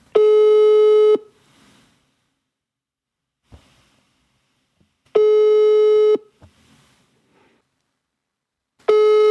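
A telephone ringback tone sounds while a call connects: a steady buzzy tone about a second long, repeating every five seconds or so, with faint clicks in the silences and no talking.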